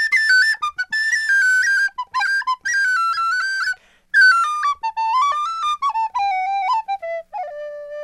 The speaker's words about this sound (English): … are celebrating their anniversary with a tour of the United States, which is why … is playing his tin whistle for us right now from the studios of member station WBUR in that most Irish of American cities, Boston.